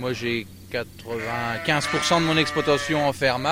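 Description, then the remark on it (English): A farmer's 80 black-faced Suffolk sheep bleat as he feeds them, several overlapping wavering calls rising and falling in quick succession, loud and continuous with only brief pauses between cries. “feeding his 80 black-faced Suffolk sheep.”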